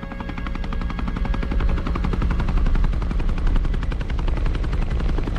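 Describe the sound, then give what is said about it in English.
A rescue helicopter's rotor chop pounds rapidly and steadily, loud, with a heavy low rumble throughout and no voices, as it arrives over snow. “The bodies of the two friends lie side by side in the snow as the rescue helicopter arrives.”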